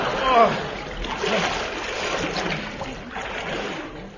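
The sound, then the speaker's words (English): A heavy splash into deep water, followed by several seconds of churning, sloshing water, with faint voices mixed in beneath the noise. “What fool put tripwires and iron girder and deep water in our way?”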